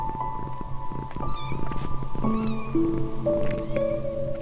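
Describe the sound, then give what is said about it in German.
A cat gives several short, high-pitched meows in quick succession, clear, as a mother cat gives birth to a litter of five kittens, over a soft, steady musical background with rising sustained tones. “Genauso verfährt die Katzenmama mit Baby Nummer 2, 3, 4 und 5.”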